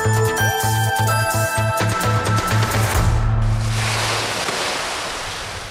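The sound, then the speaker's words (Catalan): Sea waves wash onto the beach at Segur de Calafell, at the spot with a large concrete block on the seafront, in a broad, steady roar that swells and slowly fades, following a short opening of sustained tonal, music-like sound. “Així és com arriben les onades a la platja de Segur de Calafell, just en el punt on hi ha un gran bloc de formigó a primera línia de mar.”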